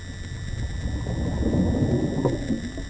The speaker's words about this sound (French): Et dans cet enregistrement-là, vous entendez le tambour, mais beaucoup moins parce que là, il y a un bateau. Il masque justement ce son biologique.